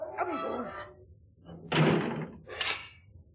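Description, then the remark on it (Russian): A heavy door slams shut, followed a moment later by a second sharp clatter like a bolt being thrown as people are locked in behind it. A brief voice is heard just before the slam. “Посиди за этой дверью, подумай, жить хочешь или умирать хочешь. Запри их”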